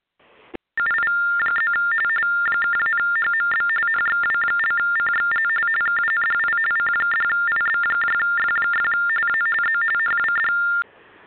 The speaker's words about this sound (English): I don't know if that's coming across the radio station or what, but I keep hearing a phone, man, or something.